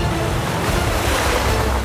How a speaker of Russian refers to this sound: Субмарина потеряла ход. Ничего не оставалось, как подниматься на поверхность штормового моря. В 11 часов 16 минут лодка всплыла.